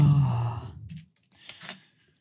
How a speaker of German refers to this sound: Oh, jetzt höre ich mich so ganz krass atmen.